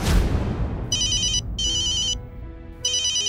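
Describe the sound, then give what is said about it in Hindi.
A phone ringtone for an incoming call rings in three repeated electronic bursts with short gaps between them. It is clear and follows a brief whoosh at the start, with no talking. “उसने मुझे फोन किया।”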